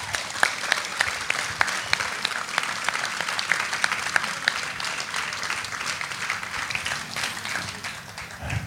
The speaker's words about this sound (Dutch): Graag een applaus van wat u hier ziet. Dat het toch maar weer gerealiseerd is en gemaakt is, zoals het hier is.